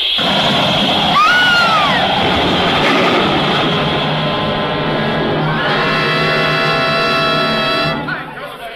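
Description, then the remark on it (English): A train collision: a loud, dense roar of grinding and rumbling, with a brief rising squeal early on and a long, shrill metallic screech in the second half before the noise drops off. “Bumped into a train.”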